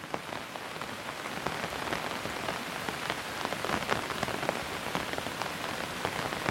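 Steady rain patters on a hard surface, a dense, even hiss dotted with sharper individual drops, constant with no voices.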